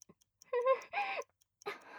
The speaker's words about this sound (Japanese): 旦那様、またその懐中時計の音は。せっかく体のおずきが収まっていたのに。